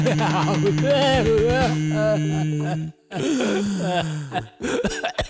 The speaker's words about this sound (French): Superbe jingle, superbe jingle